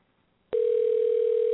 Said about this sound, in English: I'm just calling John if he answers his phone.